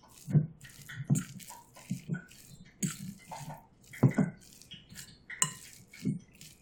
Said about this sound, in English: I'm going to turn this down. water in the bottom of that pan because it is currently losing its mind in that oil now.